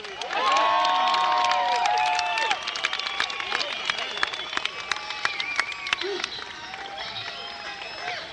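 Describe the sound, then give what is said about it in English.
A crowd cheers and applauds loudly for the band, with whoops and shouts over dense, rapid clapping that stays steady before easing slightly after a couple of seconds. “Let's hear it for the band.”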